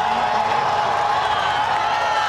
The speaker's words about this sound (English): It's the moment of totality. Listen to this crowd. Here we go. We can see it. Plunged into darkness.